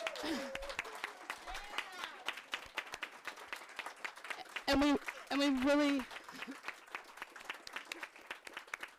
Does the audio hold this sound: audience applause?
yes